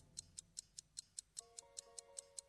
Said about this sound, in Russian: Что такое? Часы тикают. Вы принесли тиканье с собой.